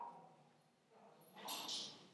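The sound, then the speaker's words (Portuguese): A dog gives a few quick, high-pitched excited yips while a woman who has just arrived home plays with it, bunched together toward the end of a quiet stretch, fairly faint overall with a soft background murmur. “Pera só um minuto, que agora minha mãe chegou, tá brincando com o cachorro ali, olha o barulho.”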